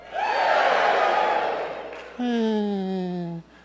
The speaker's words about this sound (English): I mean, you booed a little louder than that.